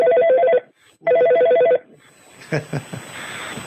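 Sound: telephone ringing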